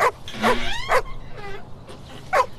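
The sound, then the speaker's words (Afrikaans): Several harsh, overlapping dog yelps and snarls burst out in quick succession, with high whining cries between them, fairly loud, as the dog Boesman gets into a fight, like a brief scuffle between dogs. “Genade, nee, Boesman is weer in 'n veg. Lustige by. Wag dat ek net eers gaan vrede maak met die hond.”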